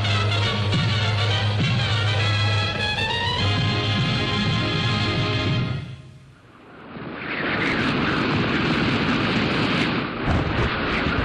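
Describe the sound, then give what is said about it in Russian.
A loud ocean storm gathering strength roars with howling wind and surging waves, first under a sustained droning tone, then briefly easing before the broad rushing roar swells back in. “в океане набирал силы шторм.”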